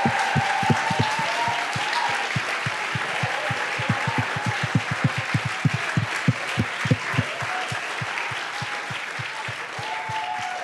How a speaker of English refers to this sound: Diesen Leuten mal einen riesen Applaus geben. Come on, give them a big, big, big, big clap.